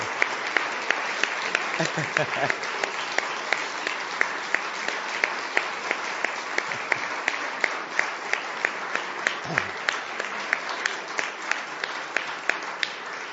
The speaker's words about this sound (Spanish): Un aplauso grande para él.